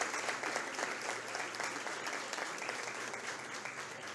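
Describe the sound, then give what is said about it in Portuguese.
Sustained applause from an audience at an award presentation, as a woman receives a prize from council president Carlos Espíndola: a dense, steady wash of many hands clapping at an even loudness for several seconds, with no voices standing out. “Uma salva de palmas, por gentileza.”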